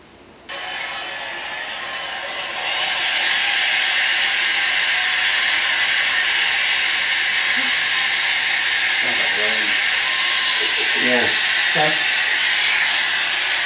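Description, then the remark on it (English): A tinny football stadium crowd roars spontaneously through a small phone speaker as a ball carrier breaks tackles, swelling after a couple of seconds into a loud, steady wash of cheering with a few shouted voices rising above it. “So it's a little hard from my little phone speakers, but the crowd's like, whoa!”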